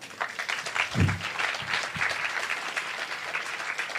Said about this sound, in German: Applaus.